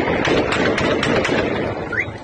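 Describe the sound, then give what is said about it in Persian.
Several sharp cracks of gunfire ring out at irregular intervals over a dense, noisy crowd din in Yasuj, Iran, as security forces confront protesters after city council elections, with a brief rising whistle-like tone near the end. “در این تصاویر صدای تیراندازی هم به گوش می‌رسد.”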